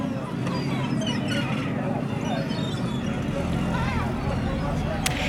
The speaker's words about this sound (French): Le son du ferry.